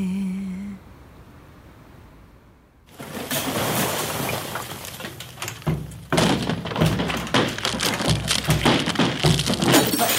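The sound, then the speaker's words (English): A wall cracking: after a few quiet seconds, a dense, continuous crackling and crunching breaks out and grows louder midway, sustained, with no one speaking. “The sound of a wall cracking.”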